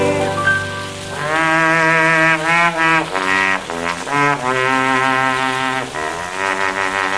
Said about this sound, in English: When I first saw the light of the day, I could hear my father play. He played a song on his light trombone, and he always played it this way.